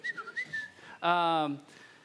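A person whistles a few quick, wavering notes through their teeth, followed by a loud, brief buzzing vocal sound, clear.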